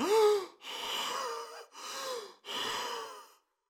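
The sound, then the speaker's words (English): A man gasps for air, starting with a sharp voiced intake followed by three ragged, heavy breaths in quick succession, alone with no talking. “Henry fell back, holding his chest, gasping for air.”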